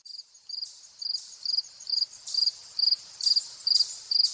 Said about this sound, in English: Fall field crickets in August. They are joined by a chipmunk and a blue jay at the Platt Nature Center in Killingworth, Connecticut.